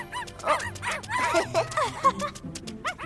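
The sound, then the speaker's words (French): Several puppies, just given evening outfits, yip and whimper excitedly in quick, overlapping bursts, high-pitched, with a few sharper yelps standing out throughout the short clip. “Oh, des tenues de soirée pour mes chiots.”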